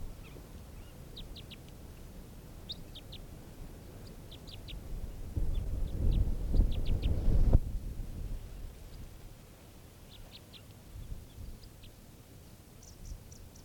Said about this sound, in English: Very low pitch type 3 variant. Recording, the bird's calling now.